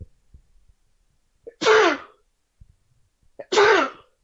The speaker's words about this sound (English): Anyways, one second, I'm about to sneeze.